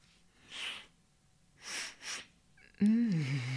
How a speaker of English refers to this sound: Just scooch around and hold them up to my nose for me, okay? Oh, come on, don't be shy. Press the panties up to Mummy's nose. I'm going to take a quick sniff.